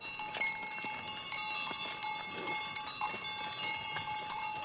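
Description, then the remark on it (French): Many cowbells on a herd of cows clang and jingle continuously as the herd moves, with overlapping metallic tones ringing at an irregular, steady pace and no talking. “Il en manque pas de vache.”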